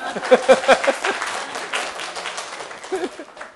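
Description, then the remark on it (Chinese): An audience claps in thanks to the Lord, a dense patter of many hands clapping at once that gradually thins out, with a few voices murmuring through it. “好，感谢主，我们拍拍手。”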